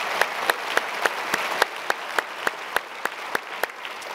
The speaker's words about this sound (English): And so by applause, would you welcome all the campuses and give Levi a huge welcome to Fairhaven as he's joining us on staff. Great to have you.